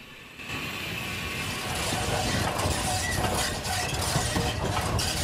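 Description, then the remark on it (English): A steady, loud mechanical roar sets in after a brief quieter start, with faint rhythmic clanks running through it: the wheels and connecting rods of a large steam locomotive, the Flying Scotsman, turning as the train powers along. “The connecting rods on the locomotive's wheels turning rhythmically as the train powers along.”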